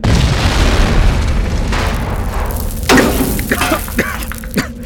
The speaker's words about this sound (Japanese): 何が成功だ、このアホ。あんな狭いところで爆薬なんか使いやがって、殺す気か。